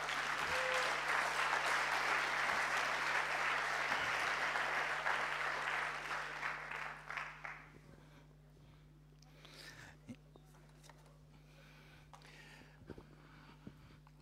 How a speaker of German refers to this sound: Genau, das ist so, du wirst noch mit einem Applaus ermutigt hier und sowas.